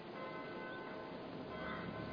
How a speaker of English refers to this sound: It's just a church bell, Martin. Ringing the Angelus.